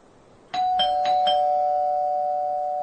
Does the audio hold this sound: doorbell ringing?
yes